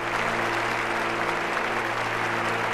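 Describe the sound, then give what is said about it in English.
Steady, dense applause from a standing crowd of the clandestine services for Congressman Charles Wilson, a continuous wash of clapping that holds at an even loudness throughout with no voices rising above it. “Charlie himself goes to the microphone at the pulpit and appears somewhat overwhelmed yet appreciative of the applause.”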